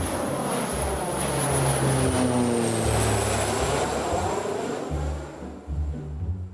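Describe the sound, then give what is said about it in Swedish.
A propeller airplane drones steadily overhead, its engine roar loud and sustained with a slowly shifting pitch as it passes, then easing slightly toward the end. “Flygplan.”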